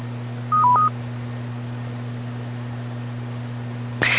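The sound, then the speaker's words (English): Skywarn emergency radio alert tones: a brief pair of electronic beeps, then a higher tone cutting in at the very end, all over a steady low electrical hum with no talking. “And at this time, there are no severe thunderstorm warnings in effect, so I'm going to bring down the tones, but we're going to remain activated, and we'll be in standby mode.”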